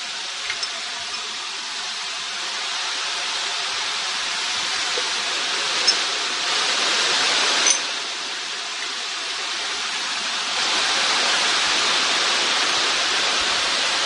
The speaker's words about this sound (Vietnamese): Thôi nhưng mà mưa to thế này thì giảng làm sao mọi người nghe được.